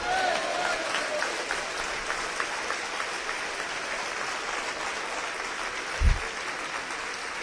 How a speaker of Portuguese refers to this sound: Vocês aplaudiram o Senhor de boca fechada? A Bíblia diz: aplaudir com as mãos todos os povos e celebrai a Deus, e celebrai a Deus com voz de júbilo, porque o Senhor é tremendo sobre toda a terra. É assim que se faz.